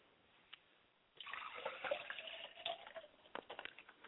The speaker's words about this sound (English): I like to pour libation to Yamanja.